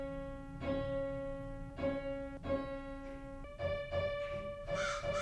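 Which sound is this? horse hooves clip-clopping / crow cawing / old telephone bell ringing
crow cawing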